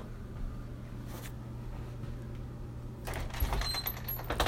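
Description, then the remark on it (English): A front door opens partway through, with a brief rattling slide and clatter, and the background grows louder and airier afterward, like stepping outside toward outdoor noise. “I'm going outside to the front door.”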